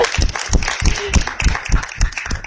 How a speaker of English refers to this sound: a round of applause for translating poetry. It's very difficult.